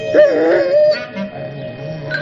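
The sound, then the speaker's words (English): A dog howls in a wavering, drawn-out tone, then gives a few short yips and whimpers, fairly loud, with no one talking. “Be a good boy, a dog.”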